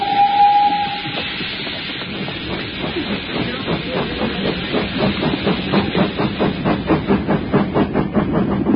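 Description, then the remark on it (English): A steam locomotive charges along at full speed, its rhythmic chuffing quickening into rapid, hissing puffs over a loud rumble, with a short whistle sounding at the very start. No one speaks. “We must peck the furnace with coal. Engineer, pour on all speed.”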